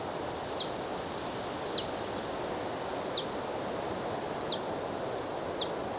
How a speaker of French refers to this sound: Alors justement, parlons du vent. Qu'est-ce que le vent? De l'air qui se déplace? Et en fait, le bruit du vent est une conséquence.